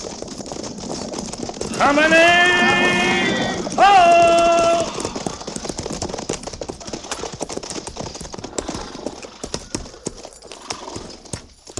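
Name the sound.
horses' hooves clip-clopping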